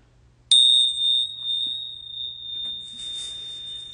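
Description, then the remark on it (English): A single hand bell is struck once, and its clear, high, pure tone rings out and sustains for several seconds. Soft rustling or shaking of the bells comes in near the end, with no one speaking. “We do a little shaky, little ringing of the bells.”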